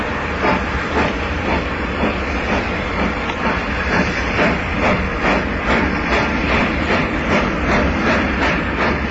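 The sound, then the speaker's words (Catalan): A train departs Girona station heading toward the Garrotxa on a one-metre-gauge track, gathering speed, its loud, steady rumble and hiss punctuated by regular rhythmic clacks of wheels over rail joints, with no one talking. “Pujam el tren i sortim de viatge cap a la Garrotxa.”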